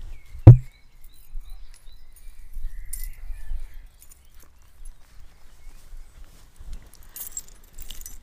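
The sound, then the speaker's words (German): Keys on a keychain with two charms and an AirTag in a rubber case jangle as they are handled, with a sharp clink at the start followed by soft, scattered metallic rattles and low handling thumps; no one speaks. “Also so sieht mein Schlüsselbund aus.”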